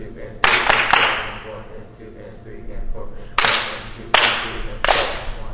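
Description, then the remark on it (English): Trombone players rehearsing with their instructor clap out a short rhythm: a quick burst of three sharp, loud claps, a pause, then three more spaced a bit more evenly, each ringing out briefly over a low background murmur. “They clap out a short rhythm there.”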